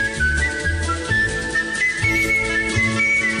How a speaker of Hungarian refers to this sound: Na jó, azért ebből most már tényleg elég. Tehát már ennyi fütyülést.